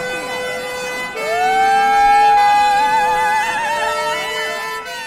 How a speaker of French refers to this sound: Je crois que c'est les pompiers qui passent. Ouais. Mais juste les pompiers qui font du bruit.